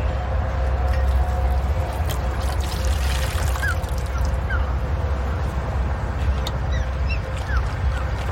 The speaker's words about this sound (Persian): پشت یه وانت اوراق شده چند تا طول سگ میبینه. با بطری آب خودش تو ظرفشون آب میریزه.